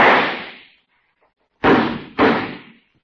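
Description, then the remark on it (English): A single loud gunshot fired at night rings out and fades, then after a brief silence two more sharp bangs follow in quick succession, each with a long decaying tail, the shot echoing back from the river below. “You know, Harriet, there's a terrific echo from the river down there.”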